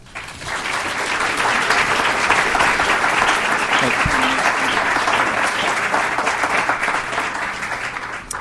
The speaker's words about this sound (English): Those were very beautiful words. Let's please give those words one more round of applause.